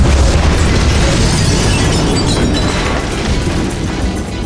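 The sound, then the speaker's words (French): A loud explosion as a man blows up his own house, heard as a heavy, continuous roar with deep rumbling bass and crackling debris that holds steady for several seconds, with no talking. “Exploser sa propre maison, puis tout recommencer, check.”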